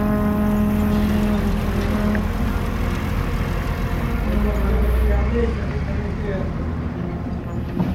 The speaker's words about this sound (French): Ça y est, c'est tout parti. C'est le dernier voyage. Allez, voilà. Il y a un camion qui se met en route.